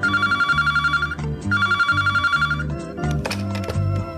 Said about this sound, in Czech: Jednog jutra mi je zazvonio telefon.